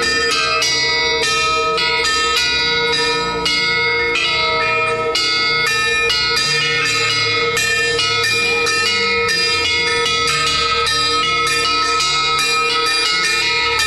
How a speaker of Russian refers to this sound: Да, у храма пока нет колоколов, их заменяют обрезанные кислородные баллоны. Но это не беда, в умелых руках даже такая колокольня звучит.